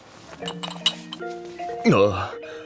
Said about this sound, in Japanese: ちょうどお城から出た時、12時の鐘が鳴り、魔法が解けたシンデレラは元のみすぼらしい姿へと戻ってしまいました。